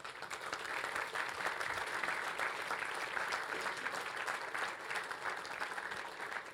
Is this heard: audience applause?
yes